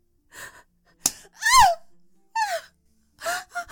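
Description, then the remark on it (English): A woman's soft breathy gasps and short moans, four or five separate bursts with brief pauses between, several sliding downward in pitch. No words are spoken. “Have my delicate curves and my soft gasps and moans failed to delight you, master?”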